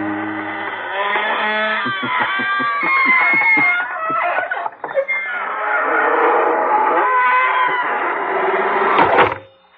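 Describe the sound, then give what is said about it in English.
A long, loud creak of the squeaking door of the Inner Sanctum mystery radio program, lasting about ten seconds: a wavering high-pitched squeal that breaks into a rapid stuttering series of ratchet-like clicks midway, then stretches into a strained groan before stopping abruptly. “Folks, here we are outside the squeaking door.”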